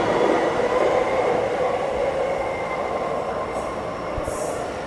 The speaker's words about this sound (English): And again, this is a station with multiple trains. Two trains just left on this platform. There's another train on another platform. And there's a platform on the other side as well.